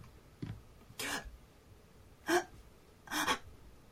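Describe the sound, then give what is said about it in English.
A person demonstrates breath play, holding their breath in near-silence, then letting out three sharp, breathy gasps at uneven intervals with quiet pauses between them. “Right there, you're performing breath play on yourself, even if you're not aware of it.”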